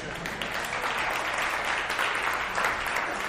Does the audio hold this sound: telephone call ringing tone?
no